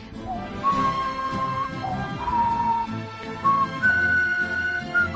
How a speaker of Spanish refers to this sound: Es que me ha pillado silbando. Es que siempre la silbas mal. Yo silbo mucho.